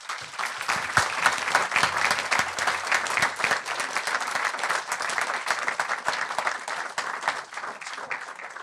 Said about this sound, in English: Can I just suggest we give all the people who are here tonight and the ones that aren't a round of applause for their effort also.